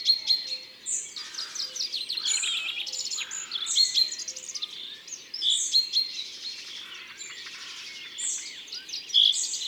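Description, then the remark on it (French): A chaffinch's short "ru ru" call, one of its two common calls, repeats among a busy chorus of high, bright chirps and tweets from several birds, steady throughout, with no voices. “Le pinson a deux cris très communs, le ping ping et ce ru ru qu'on entend ici.”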